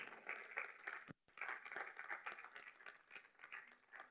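A crowd bursts into sustained applause to the Lord for a man who is back, many hands clapping in a dense, crackling wash with a brief break near the start before the clapping resumes and carries on steadily.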